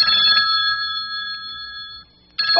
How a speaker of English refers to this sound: Oh, speaking of five senses, my sense of hearing tells me my telephone's ringing. Now I wonder who that could be.